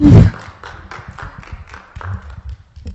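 Clapping breaks out after a loud opening thump, continuing as a steady patter of sharp, fairly even claps that gradually thin out, with no talking over it.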